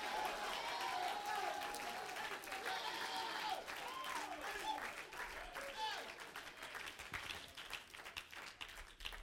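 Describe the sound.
A church audience claps hands in praise, a dense, steady patter of many claps filling the room, with raised voices calling and singing over it throughout.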